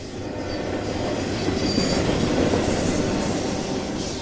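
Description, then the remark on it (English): A freight train rumbles past on the tracks in Tucson, a steady, heavy roar of rolling wheels with faint metallic squeals riding on top, loud throughout with no voices. “This train is the grandchild of the Southern Pacific locomotive that sliced Tucson in half in 1880.”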